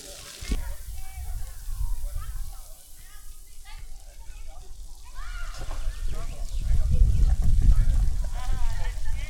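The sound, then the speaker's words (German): Steady, hissing rustle of tree leaves stirring in the wind, with a low rumble that swells toward the end and faint voices somewhere in the background. “Das war das Geräusch von den Blättern von den Bäumen.”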